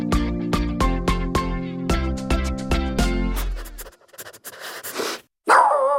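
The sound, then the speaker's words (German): A dog barks in a quick, steady series over a sustained tonal backing, followed by a few scattered rough yelps and a brief whimpering sound, all fairly loud. “Die Sendung mit dem Hund”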